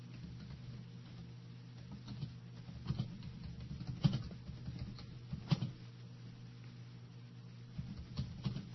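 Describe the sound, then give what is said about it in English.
Quiet, scattered keyboard taps in a few short bursts over a steady low hum. The clicks are light, with no voices. “Pardon the typing noises.”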